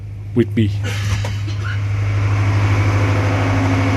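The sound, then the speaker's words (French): A heavy boat engine drones steadily and loudly in the engine room at the bottom of a ship with a crew of seven, a deep continuous hum with a faint rumbling pulse. Brief voices are heard at the start over the noise. “On quitte la salle des moteurs et on s'installe en haut, dans la cabine, pendant qu'un de ses collègues se repose sur une banquette.”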